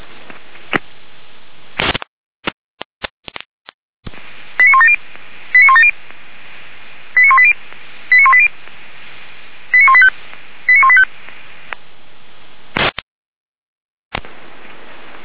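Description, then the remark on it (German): Fire brigade radio pager alert tones for a pager test of the Weimar professional fire brigade and all volunteer fire brigades of the city of Weimar: six short, bright multi-tone bursts in three evenly spaced pairs, heard over a band-limited radio channel with hiss, clicks and squelch bursts before and after. “Überprüfung, Funkmeldeempfänger für die Berufsfeuerwehr Weimar und alle freiwilligen Feuerwehren der Stadt Weimar.”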